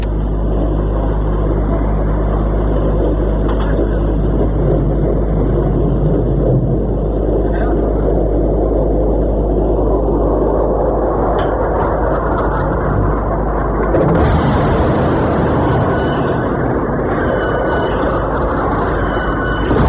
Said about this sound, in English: you ever wanted to know what a cruise missile slamming into a building nearby sounds like? Here it is.